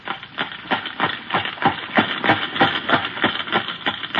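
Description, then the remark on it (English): A horse coming down the street clops along in a steady, even rhythm, roughly three sharp knocks per second, sounding alone with no voices and holding a fairly constant loudness throughout. “he knows it's a horse.”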